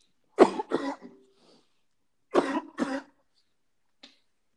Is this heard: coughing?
yes